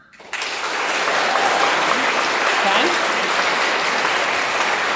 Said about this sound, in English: All right. A round of applause.